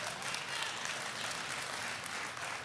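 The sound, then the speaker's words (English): Steady, dense applause from an audience, many hands clapping at once in a continuous, even roar that holds a consistent loudness throughout without pause. “I had a lot more to say, but I can't go after the clapping.”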